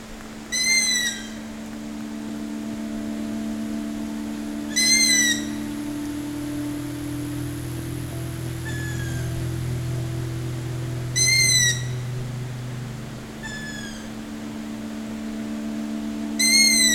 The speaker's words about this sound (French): Les oiseaux de nuit. Forêt fascinante.